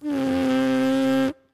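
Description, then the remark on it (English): A single steady plain lip buzz, made without a horn at the lips, loud, holding one bright, raspy pitch for just over a second before cutting off abruptly into silence. “Yeah, so this is the plain buzzing.”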